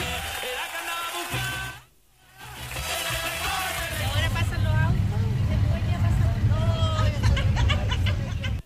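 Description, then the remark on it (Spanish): Crowd chatter and voices fill an outdoor street scene in Osorno as a steady, low engine rumble rises and continues as antique cars roll slowly past in a parade. “están pasando los autos antiguos en el desfile”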